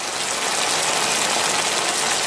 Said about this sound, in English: All right, my friends at KFC, Kentucky Fried Chicken, have teamed up with the sleep company Hatch for this brand new white noise sound. Now, hear me out. It's a white noise sound of chicken being fried.